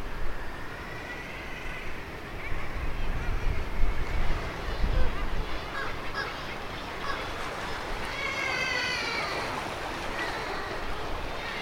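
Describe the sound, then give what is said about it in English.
Seabird cries echo off the rocks of the cliffs below, a scattering of shrill, high calls that come and go over a steady roar of surf and wind, a little louder around the middle. “And it sounds like it's a sort of echo chamber down there, and you can hear the sound echoing around of their cries, can't you, off the rocks of the cliffs.”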